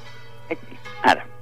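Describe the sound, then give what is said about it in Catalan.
Bells ringing steadily, their sustained metallic tones humming throughout, with a couple of brief louder knocks or yelps breaking in over the drone. “És que no se sent amb tant soroll de campanes.”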